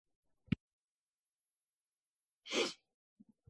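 aborted sneeze

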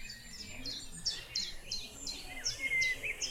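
bird singing

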